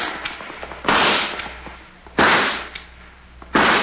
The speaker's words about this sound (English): You call that nice shooting, Judge? Shot 4 times and only got 2 birds.